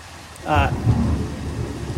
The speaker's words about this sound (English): I've always loved thunderstorms. I don't know why. I'm a weirdo, right? But that crack of the thunder, the rain, it's all just so powerful to me.